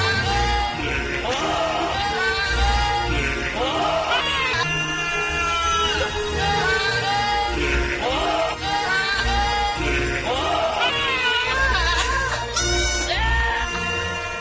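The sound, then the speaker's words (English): Bleating goat cries, pitch-shifted and edited together so the goats sing a very famous theme, ride loudly over a full orchestral-style backing track, rising and falling in wavering phrases for the whole stretch with no talking. “What if it was edited together so that goats were singing it?”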